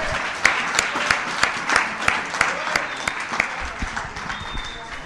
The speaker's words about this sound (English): The unsung heroes of this weekend are the Fellowship of the Spirit Committee, the guys that put this thing together. So let's all give them a round of applause.